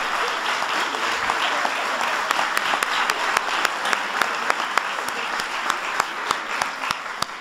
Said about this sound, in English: Give them all a big round of applause.